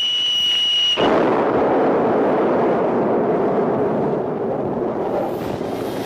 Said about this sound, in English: From my vantage point, the Saturn V has exploded into a giant mushroom cloud. Flames and shrapnel are flying everywhere, filling the sky.